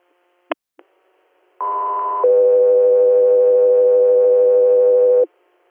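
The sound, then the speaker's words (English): Dispatch paging alert tones: two quick clicks, then a short, steady higher beep that drops into a long, lower sustained tone lasting a few seconds, loud and clean with no talking. “Get through to your standby for tones.”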